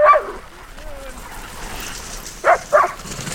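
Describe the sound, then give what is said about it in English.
Excited sled dogs hooked up to a guy line before a training run bark in short, sharp bursts: one yelp at the start, then a quick pair near the end, with a faint thin whine in between against a low, restless background, as they leap and bang on their harnesses. “They're hooked up to the guy line, leaping in the air, banging on their harness. It's like this chaotic symphony rising up to a crescendo.”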